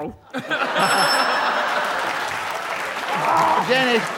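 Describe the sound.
A quiz contestant's buzzer gives a brief, high electronic ring near the start, over a steady wash of applause and overlapping voices that continues to the end.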